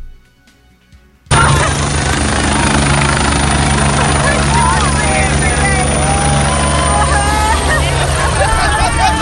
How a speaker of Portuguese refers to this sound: Aí você vai vendo que esses aí ainda estão até rindo, alguns comemorando, que foi o momento que o helicóptero passou pra resgatar eles.